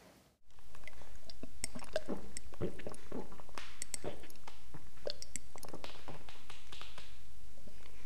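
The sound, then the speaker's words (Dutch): Quiet sipping of champagne in a New Year toast: a run of wet mouth sounds, small slurps and soft clicks as someone drinks and swallows, with no talking. “Dat was een lekker slokje Château de Torture.”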